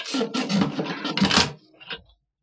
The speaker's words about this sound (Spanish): Y por fin siente el ruido de la cadena que cae pesadamente al suelo. La puerta se abrirá.